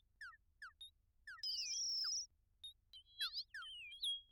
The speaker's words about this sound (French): Et des moindres amalgames de ces frondaisons s'échappait un concert de gazouillements, de ululements, ici des cris, là des chants, qui s'éparpillait du matin au soir.